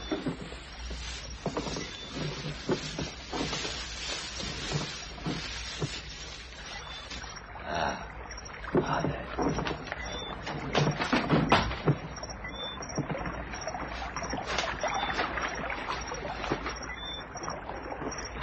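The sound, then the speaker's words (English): A rowboat being rowed as a man leaves in it, oars dipping and splashing in the water in a loose, repeating rhythm, with a steady watery wash and light wind underneath. “He's leaving in a boat.”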